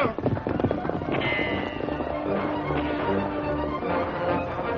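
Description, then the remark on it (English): Horses gallop hard, hooves pounding in a rapid, continuous rush as they hurdle the low part of a blazing barricade of barrels, over a loud crackling roar of fire that fills the whole few seconds, with shouting voices mixed in. “Our horses can hurdle the low part of the barrier.”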